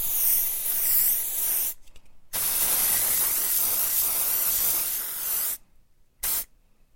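Loud hissing bursts of an aerosol spray paint can spraying paint onto an old wall, a long spray broken by short pauses and ending with a brief final puff, with no voices.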